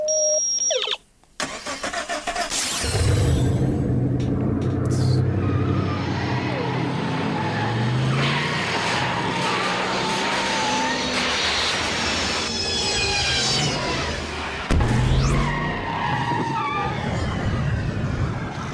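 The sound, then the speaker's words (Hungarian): A car engine fires up after a brief pause and roars loudly and steadily, its pitch climbing and dropping as it revs, with a hard rev burst near the end. “A motorhangot. Ez fantasztikus.”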